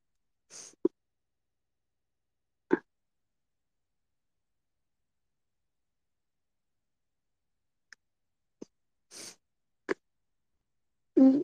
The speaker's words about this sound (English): What? God, a cough again. I don't want to blast your eardrums.